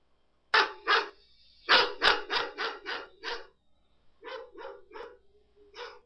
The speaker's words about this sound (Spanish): Muy bien, este es el ladrido de un perro.